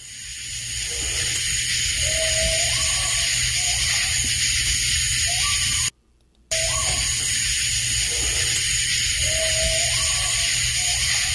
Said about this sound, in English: I'm going to play the original one that she sent in, and you're going to notice a lot of background noise from insects and buzz and what do you call those, June bugs or what are those? Katydids. Katydids.